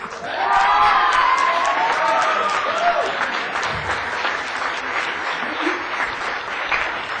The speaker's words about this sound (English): who's going to give me some advice on how to get that kind of applause when I get up to speak.